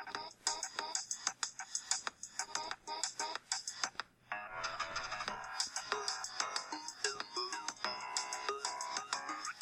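A bright, busy electronic tune plays through a small phone speaker, looping with punchy percussive hits and a thin, tinny tone, steady and fairly loud with a brief dip midway.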